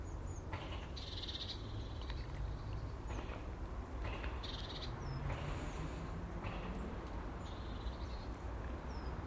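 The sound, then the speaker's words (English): Small birds flitting about in trees chirp intermittently on a calm morning, short high calls scattered across the scene, over a steady low outdoor rumble with no one speaking. “It's a lovely calm morning, as I said, and there's loads of wee birds flitting about in the trees.”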